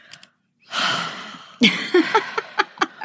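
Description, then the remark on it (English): Heavy, breathy exhalations: a long airy sigh followed by a string of short, rhythmic panting gasps, with no words spoken. “Is that heavy breathing? I just hear lots of heavy breathing again.”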